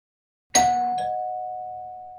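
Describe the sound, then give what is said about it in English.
A doorbell chimes out of silence: a bright first strike, then a second tone half a second later, leaving one clear ringing pitch that fades slowly. No one speaks. “Who's at the door?”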